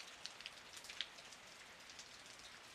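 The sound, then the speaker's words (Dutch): Steady rain patters down on a surface, a dense hiss of drops with a few sharper taps standing out, fairly quiet and continuous with no voices. “Nu moet hij door de regen naar de wc.”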